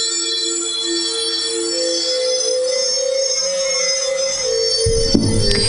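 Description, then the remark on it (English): Trippy music: layered, sustained tones hang in a shimmering drone with bright high overtones, then a deeper, louder swell of low notes rises in the final second. No one speaks. “When you hear the trippy music, you know what time it is.”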